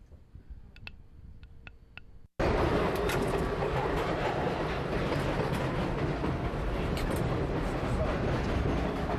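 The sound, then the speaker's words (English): A few sharp clicks and light ticking in a quieter space, then a sudden jump to a loud, steady New York subway car rumble that roars continuously along the tracks with rattling and squeal. “So I followed him into the next subway car and asked him if I could film as he did it again.”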